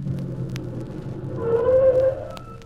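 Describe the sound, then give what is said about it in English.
A car approaches, its low engine rumble and rising whine swelling in loudness toward the end before easing slightly. No voices are heard. “There's a car coming.”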